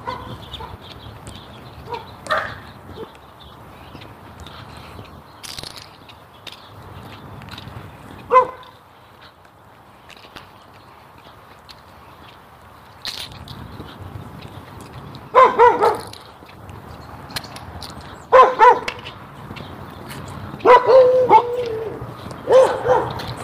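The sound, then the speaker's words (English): Backyard dogs bark repeatedly from somewhere off to the side, sharp clustered woofs in bursts over a low outdoor rumble, growing louder and more frequent toward the end. “Backyard dogs.”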